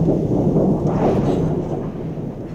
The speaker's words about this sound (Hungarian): Ő megijedt volna a dörgéstől.